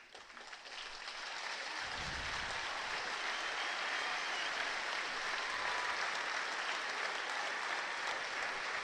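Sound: stadium crowd applause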